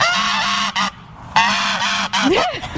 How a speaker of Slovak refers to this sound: To je hrozné, to si dám na budík. Je to hus, hej?